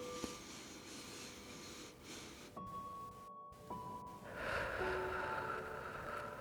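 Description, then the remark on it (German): A long, airy breath drawn in through the nose during a guided meditation, steady, growing louder toward the end over a quiet sustained tonal background, with no one speaking. “Und dann atmet mal tief in diese Stelle hinein, nochmal durch die Nase ein.”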